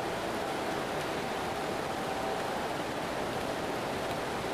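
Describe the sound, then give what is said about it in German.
Steady rain, growing heavier, falls without pause, a dense, even hiss that fills the whole clip at moderate loudness. No voices or other distinct sounds break through. “Der Regen wird mehr. Ich mag das ja nicht, wenn es so regnet.”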